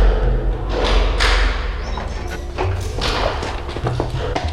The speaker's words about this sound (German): wussten nicht, wie lange sie schon im Heizungskeller ausgehalten hatten, als die Tür wieder aufgeschlossen wurde.